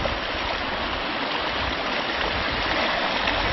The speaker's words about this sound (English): Many waterfalls in here.